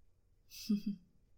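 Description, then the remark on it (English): A brief metallic rattle followed by two soft clunks as a door lock is turned open at night, quiet, with no voices. “Just unlock the door and go inside.”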